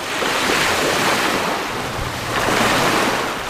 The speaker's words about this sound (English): Waves from the Good News Bay gently laps over the shore near the plant. Good News Bay is located on the Bering Sea coast between Dillingham and Bethel.